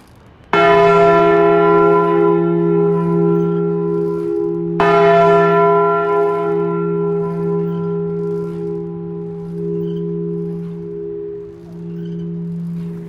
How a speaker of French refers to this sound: Pourquoi ça vous fait pleurer, les cloches ? Ça a toujours été. Je ne sais pas. Ça m'émeut tellement. Et c'est pas d'aujourd'hui. Même étant petit, ça me troublait.